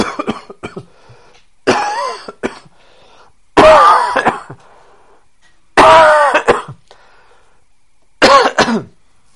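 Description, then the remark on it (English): A loud coughing fit: a few short hacks, then four harsh, raspy bursts spaced about two seconds apart, with quiet pauses between and no talking. “So you have to patiently cough until it stops, then you can speak.”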